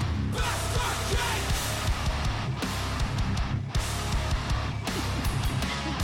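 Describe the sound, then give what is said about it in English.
Loud, dense heavy rock music with harsh yelled vocals over a pounding, steady headbanging beat and distorted guitars, filling the whole stretch with only brief dips between phrases. “What are they yelling about? I'm trying to hear.”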